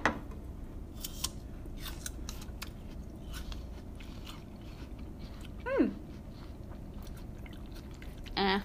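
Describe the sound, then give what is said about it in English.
Crisp crunching and chewing of salt and pepper apple slices, a series of short irregular bites and mouth sounds, with a brief higher squeak partway through and a louder crunch at the end. “Salt and pepper apples.”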